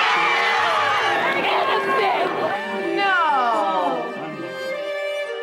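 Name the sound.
crowd cheering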